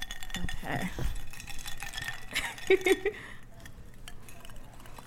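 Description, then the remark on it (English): Drinking glasses clink together in a toast, a quick cluster of two or three bright, ringing taps, amid soft rustling and handling noise, in a rented house at Sundance. “Okay, well, here we go. Cheers.”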